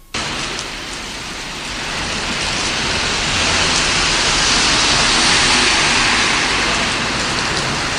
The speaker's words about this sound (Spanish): Escuchamos el sonido de la lluvia en una de las calles de Las Palmas de Gran Canaria. Ha sido protagonista esta semana junto al intenso frío y la nieve caída en las cumbres isleñas.